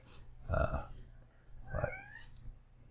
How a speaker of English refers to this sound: And I have a cat in my room too.